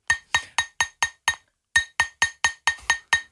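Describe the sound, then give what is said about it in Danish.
Crisp, ringing taps on glass: six quick evenly spaced strikes, a short pause, then seven more, each with a bright clink and brief decay, clear with no talking. “Okay, lad os høre, hvad der bliver slået på glas til. Ja. Det er glas.”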